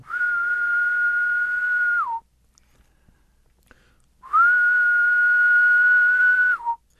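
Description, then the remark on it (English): A person whistles an imitation of the main calling song of a male Decem insect: two long, steady, mid-pitched tones of about two seconds each, each ending in a slight downward slide, with a pause between. “And if you have males that are calling to you, you can get them to shift between those songs if you're doing the wing flick right.”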